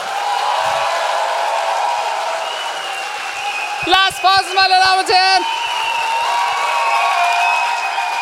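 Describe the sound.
Steady live audience applause fills the whole recording, a dense wash of clapping, while a man briefly calls out over it midway through.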